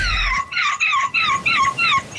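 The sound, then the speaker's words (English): A 9-year-old boy imitates a seagull at the European Goal Screeching Championship, letting out about five loud, high, screeching cries in quick succession, each with a wavering, downward-sliding pitch and brief pauses between. “He's a 9-year-old boy who took part in the European Goal Screeching Championship.”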